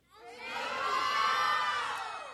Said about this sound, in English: I want our sisters and brothers who are from Nepal and Bhutan, who are right next door right now, to hear you. All right? So as loud as you can, on the count of three, say your name. Ready? One, two, three.